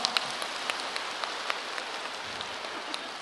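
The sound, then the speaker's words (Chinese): A crowd applauding: a dense, steady patter of many hands clapping at once, fairly soft, with a few sharper claps standing out over three seconds and no voices. “对对对， 鼓掌。”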